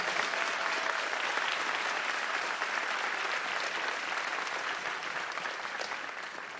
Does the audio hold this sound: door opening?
no